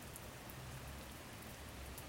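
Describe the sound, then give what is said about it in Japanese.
Steady rain patters on an umbrella, a soft continuous hiss of small drops with faint low rumble beneath, quiet, with no voices. “傘に弾ける雨音が優しいです。”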